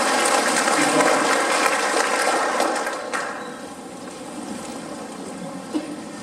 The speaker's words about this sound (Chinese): 来， 赞美主，哈利路亚！ 我再为我们的神鼓掌。